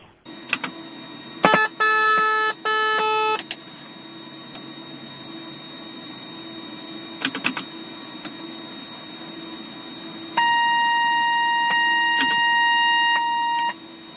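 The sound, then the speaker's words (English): Cockpit warning alarms on a small business jet are tested one after another in a pre-flight functional check of all the alarms: a pulsing electronic tone, sharp switch clicks, then a long steady warning chime, all over a low continuous hum. “That's the sound of a pre-flight functional check of all of the alarms on a small business jet.”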